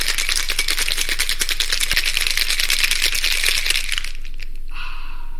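A cocktail shaker rattles hard with ice in a fast, steady rhythm for about four seconds, bright and loud, as a yellowish-golden cocktail is made, then stops and a brief sharp pour or fizz follows. No one speaks.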